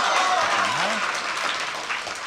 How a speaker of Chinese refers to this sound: 谢谢朋友们的掌声。 哎，多热情啊！ 如果说您这个掌声再热烈点会更好。